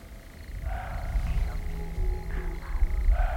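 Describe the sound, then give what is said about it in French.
A roe deer barks several times, short hoarse calls spaced irregularly over a steady low rumble of background noise, with no voices. “Aïe, il y a un chevreuil qui aboie.”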